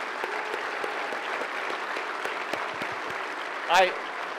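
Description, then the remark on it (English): Steady audience applause at a Republican political rally, given for the speaker's family, a dense wash of many hands clapping at an even level, with a brief louder burst near the end and some crowd murmur underneath. “So, everyone, give my family one more round of applause, please.”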